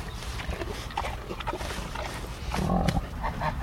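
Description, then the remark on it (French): A pig munches noisily, crunchy chewing sounds repeating in an irregular rhythm, broken by a few low grunts that swell louder near the end. “Qu'est-ce que c'est qui croustille comme ça ? Les fenouilles ?”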